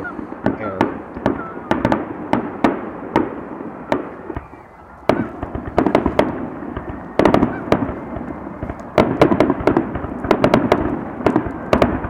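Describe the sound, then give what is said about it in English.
Rapid bursts of fireworks crackle and bang in dense, irregular clusters with a continuous roar beneath, loud and close, pausing briefly around the middle before erupting again. “Blowing a whole lot of fireworks, though.”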